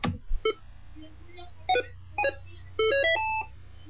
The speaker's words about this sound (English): It said two things. Beep means that the upgrade process has started. It has loaded the image to the memory. Second, it has flashed, or second, it has erased the previous bootloader image. And third, it has written to it.